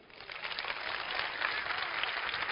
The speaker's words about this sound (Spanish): Era como, bien, entonces, el tema de los aplausos. Mira, da luces otra vez. Da luces. Aplaudid.